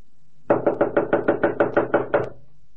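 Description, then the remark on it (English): A rapid series of about ten firm knocks on the door of a home where the light is on, evenly spaced and fairly loud, with a dull wooden thud to each rap, going unanswered, and no voices. “If they're in, they don't want to answer the door.”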